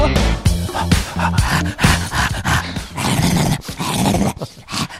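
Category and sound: animal, dog growling and whimpering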